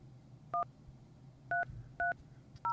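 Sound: phone number being dialed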